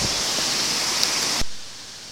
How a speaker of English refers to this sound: a 30-foot drop of water cascading down into the stream that feeds the lower part of the grounds. And it's fantastic to see on my left the stillness of the lake, and then as immediately it goes under the bridge, it breaks up and falls onto the water.